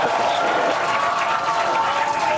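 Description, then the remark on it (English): Steady crowd cheering and applause during a rocket launch countdown, seconds before lift-off, fills the whole clip. It is a dense wash of clapping and raised voices at an even, loud level with no pauses. “They're cheering.”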